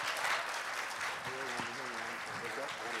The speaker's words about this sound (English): And let's give these guys a round of applause, shall we? Woo!